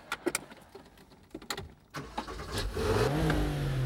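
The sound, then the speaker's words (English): A manual-transmission car's engine turns over with a few sharp clunks as it reverses, then revs up into a rising, steady roar as it speeds away along a dark highway, growing louder toward the end. “Alan reverses. Well, what do you know? Monkeys can drive a stick. They speed along a dark highway.”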